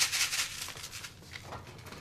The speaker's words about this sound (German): Das, was hier so rieselt, ist eine weiße CD-Hülle mit Sand gefüllt.